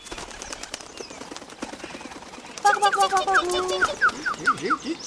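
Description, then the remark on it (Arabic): Rapid, fluttering wingbeats of a bulbul taking off and flying far away, followed by a burst of bright, repeated chirping tweets that grows louder toward the end. “في تلك الأثناء تجرأ بلبل ودخل عش العصفور وأخذ طعامه، ثم طار بعيدا بعيدا بعيدا جدا جدا عن الأنظار.”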